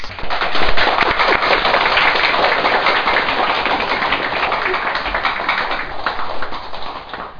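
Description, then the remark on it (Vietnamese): A crowd bursts into steady, loud applause, many hands clapping densely and continuously for several seconds, with no voices over it, applauding two young men who came to study and practice Buddhism for three days. “Xin quý vị vỗ cho hai anh một tràng pháo tay.”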